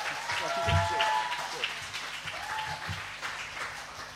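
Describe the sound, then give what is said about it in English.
An audience claps in a dense, sustained patter of many hands, with a few whoops and cheers rising over the applause before it gradually thins out. “Give him a clap, guys.”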